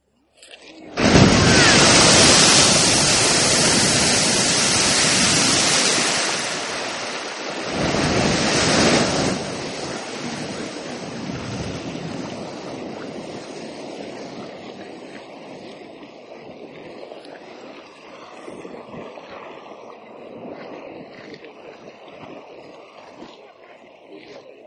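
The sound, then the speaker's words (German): A geyser in Iceland erupts: a loud, roaring rush of water bursts out, followed by a second fountain a few seconds later, then fades into softer gurgling and trickling as the water drains back into the hole underground, with wind in the background. “Mitten in der ersten Wasserexplosion gibt es noch eine zweite Fontäne.”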